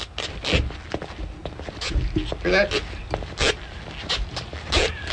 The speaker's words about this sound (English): Well, if you're walking down a hallway and the hallway is like carpet on the floor. You do have now, a squeak. I want to put the microphone. I want to see if you can hear this. Okay, it's going right onto the floor here. Okay, right on here.